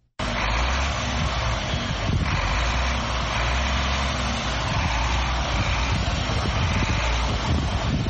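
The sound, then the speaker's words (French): A heavy goods truck driven by Massata Cissé, known as Mama Africa, rumbles steadily and loudly for several seconds, a deep, continuous low drone with some gusty wind noise over it and no one speaking. “Massata Cissé, dite Mama Africa, est à l'origine de ces ronronnements de ce véhicule poids lourd.”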